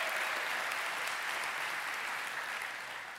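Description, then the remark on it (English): A church audience claps their hands together in a dense, sustained burst of applause lasting about three seconds, steady and loud before tapering slightly at the end, with no voices. “So if you want some of that, give me a clap of your hands so that Steve listening online, he knows.”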